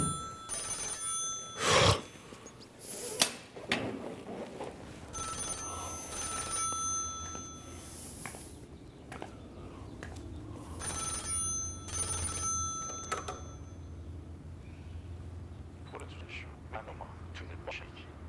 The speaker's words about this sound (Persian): گوشی رو بردار ببین کیه.